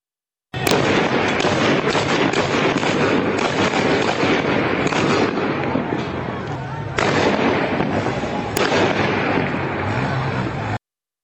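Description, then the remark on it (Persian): Rapid bursts of heavy gunfire crack through a dense, noisy street scene during a protest in Izeh, with sharp louder shots standing out over a constant roar and indistinct voices in the background. “بخشی از ویدئویی که در اون صدای تیراندازی در ایزه شنیده میشه این رو هم گوش کنیم.”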